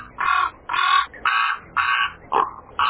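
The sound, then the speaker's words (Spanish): Crows caw repeatedly in a steady series of about six harsh, loud calls, one after another with short gaps, with no talking, by the brook of Kerith as the sun sets behind the mountains. “En el momento en que el sol empezó a desaparecer detrás de las montañas, Elías escuchó el graznido de unos cuervos.”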